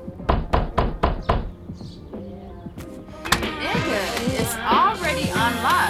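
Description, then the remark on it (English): Five loud, heavy pounding knocks on a door in a quick, steady rhythm, followed by voices talking and then speaking more loudly and agitatedly. “Why you beating on the motherfucking door like you the police or something?”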